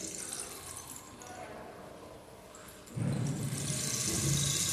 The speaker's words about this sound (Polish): Ojej, zaczął padać deszcz, a my nie mamy ze sobą parasolu.